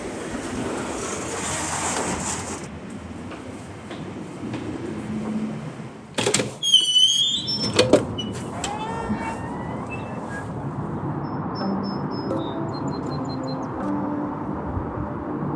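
A cable car grinds slowly to a stop as it pulls into the upper station, with a steady mechanical rumble, a burst of clanks and metallic squeals midway, then chirping tones over a continuing low hum.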